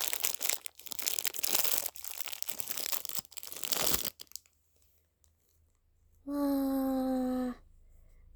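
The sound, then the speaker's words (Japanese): A crinkly plastic package is torn and crumpled open in dense, loud rustling bursts for about four seconds, then silence, followed by a short steady tonal hum from the room's air conditioner. “開けていきます。”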